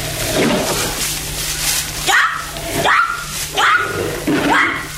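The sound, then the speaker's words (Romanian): A panther snarls in a series of four sharp, wavering cries in quick succession, each rising then falling in pitch, loud over a low steady hum. “Ai auzit? Asta e o panteră.”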